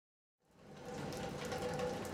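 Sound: rain falling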